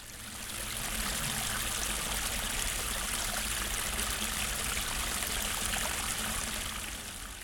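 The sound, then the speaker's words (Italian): Lancisiana water flows steadily from a niche set halfway up an embankment wall, a continuous bright splashing trickle that fades in and holds at an even, moderate level throughout, with no voices. “Da esse scorreva l'acqua lancisana.”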